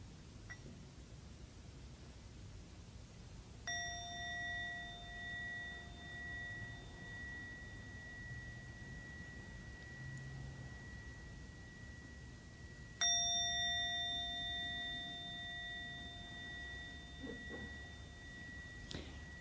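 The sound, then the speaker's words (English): A meditation bell is struck twice, several seconds apart, closing a sitting meditation, each strike ringing out with a clear, sustained tone that slowly fades over a soft background hiss. “The end of the sound of the second bell will come back together in our usual way.”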